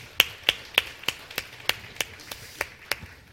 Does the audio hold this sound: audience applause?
yes